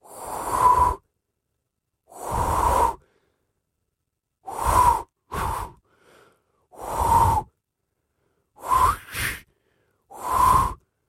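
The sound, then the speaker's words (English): A reporter's failed attempt at whistling: about eight breathy, airy blows with only a faint, wavering tone, separated by short pauses. Some come in quick pairs, and no clear whistle ever forms. “Okay, I'll try and put you all out of that misery from that pathetic attempt by our lovely reporter,”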